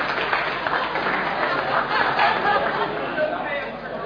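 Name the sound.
audience clapping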